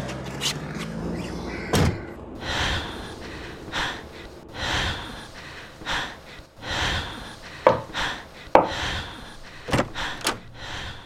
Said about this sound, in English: Jump and slam the car door so Chica doesn't get thrown out.